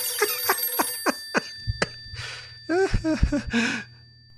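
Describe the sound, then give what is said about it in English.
A bell-type telephone rings in a quick series of sharp, bright strikes for about two seconds. Breathy exhales and a brief voiced murmur follow once the ringing stops. “Telephone's ringing. I hear it.”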